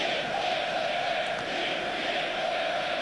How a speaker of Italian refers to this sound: Sentite i tifosi del Bayern Monaco dietro la porta occupata da Skorupski.